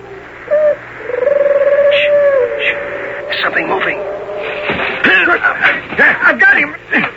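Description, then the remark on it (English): A human voice mimics owl-like hoots as Minotauri signal talk, giving a short call and then a longer drawn-out hoot, followed by fainter answering calls and rustling against a quiet outdoor background. “Those aren't owls. It's Minotauri talk. They're after our horses.”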